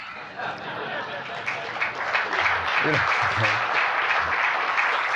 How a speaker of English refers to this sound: You don't have to commit yourself to this exhausting program of applauding each poem. Though I enjoy it, and it gives me time to turn the page.